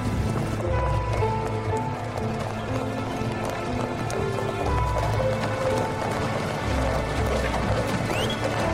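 Horses' hooves clip-clop in a steady, continuous rhythm, fairly loud, over a dense, constant background wash that lasts the whole time.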